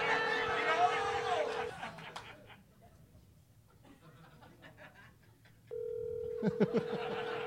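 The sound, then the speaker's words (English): The speaker's own telephone rings with two long, steady electronic tones separated by a quiet pause, over faint background voices and room noise. “Oh, my phone is ringing.”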